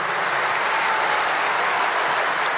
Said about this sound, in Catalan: tinc la sensació que després de sentir com feu el duet aquell des Capriccioso el Azar, la gent aplaudia molt. Sí, sí, hi havia dies que era molt bonic perquè abans d'acabar hi aplaudien i sí, és molt xulo.